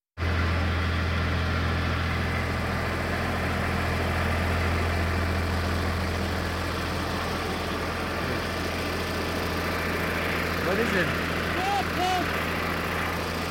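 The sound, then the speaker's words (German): A tractor-driven mill engine runs steadily, a loud, unbroken low-pitched drone with a constant mechanical rumble; faint voices briefly surface beneath it near the end. “Klangtagebuch, Treckermühle.”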